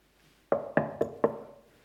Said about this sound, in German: Klopft einer an und sagt, könnt ihr mich mal reinlassen?